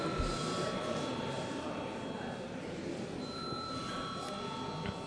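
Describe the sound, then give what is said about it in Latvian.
A continuous electric voting bell rings steadily for several seconds in a parliament chamber, a sustained metallic trill with bright tonal overtones, with a faint murmur of voices beneath. It is rung as debate ends, before a vote. “Lūdzu, zvanu.”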